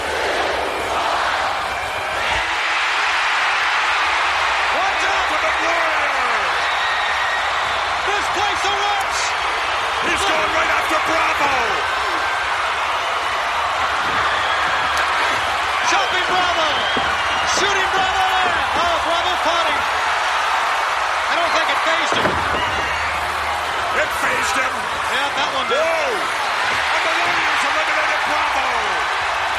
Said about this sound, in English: Number 21 is the Ultimate Warrior, and the crowd erupts. They go fucking mental.